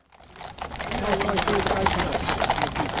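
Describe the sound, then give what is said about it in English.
Horse hooves of the King's Troop Royal Horse Artillery clip-clop on hard ground in Windsor during rehearsals for Prince Philip's funeral, many steps overlapping in a busy, steady clatter that fades in quickly and stays fairly loud, with a murmur of voices in the background. “The King's Troop Royal Horse Artillery has been rehearsing all week in Windsor ahead of the funeral of Prince Philip.”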